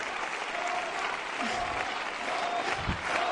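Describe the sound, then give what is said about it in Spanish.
A large crowd applauds loudly and steadily while voices shout the name "Lola" together, a dense, continuous roar of clapping and cheering with a few louder bursts rising through it. “Y termina el pueblo gritando Lola, que es como Lola.”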